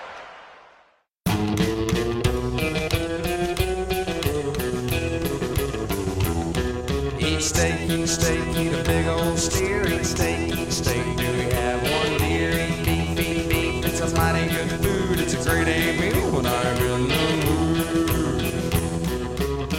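After a brief near-silent moment, a loud rock song kicks in abruptly on a radio broadcast, with driving steady drums, buzzing guitars and a dense full band playing continuously, no talking over it.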